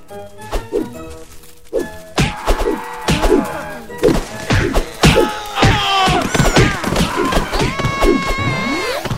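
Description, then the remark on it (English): Rapid punchy impact effects from a video game, as the player punches randomly at enemies, land in quick irregular bursts, dozens of thuds and whacks layered over bright synthetic tones and busy game noise, loud. “So I'm not even caring about accuracy now. Just punching randomly without a Megaton punch.”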